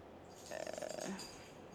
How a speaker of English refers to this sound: My God, dog, what did you do? Yeah, my dogs are crazy right now.